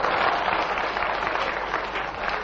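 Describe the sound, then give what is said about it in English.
An audience claps steadily for a couple of seconds, a dense, even patter of many hands at a fairly loud, constant level with no voices over it. “Don't clap.”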